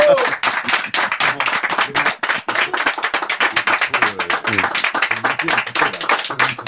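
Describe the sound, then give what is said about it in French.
A group claps and applauds steadily, dense rapid hand claps filling the whole stretch at a fairly loud level, with some voices murmuring faintly underneath. “Alors bravo, bon vent, maestro, on t'embrasse tous du fond du cœur et ils sont tous derrière moi venus là pour t'applaudir.”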